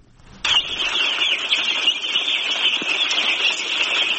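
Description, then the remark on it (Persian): A dense, continuous chorus of high-pitched peeping from many day-old chicken chicks, recently brought from Pakistan to a poultry farm in Totumdara village, Parwan province, Afghanistan, starting abruptly and holding steady and loud throughout, with no voices. “چوچه های یک روزه مرغ به تازگی از پاکستان آورده شده و قرار است برای پرورش در قریه توتمدره مرکز ولایت پروان داخل یک فارم شوند.”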